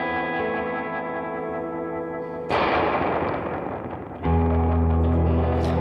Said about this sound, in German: Ich habe so ein cooles Spring Reverb mit so richtigen...